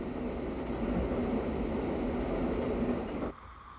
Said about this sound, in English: During sugaring time in the Northeast, the fires burn in every sugar house. The steam evaporates, and the sound of sap bubbling can be heard.